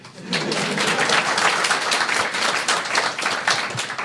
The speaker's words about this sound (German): Applaus dafür.